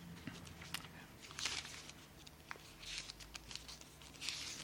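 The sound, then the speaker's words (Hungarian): Paper rustles and swishes as book pages are flipped in several quick bursts, with soft clicks between them, fairly quiet, with no voices; the pages are turned to find a famous Psalm passage. “Ugye ez a híres Zsoltár részlet, talán hadd lapozzam föl röviden, talán belefér most az időnkbe még.”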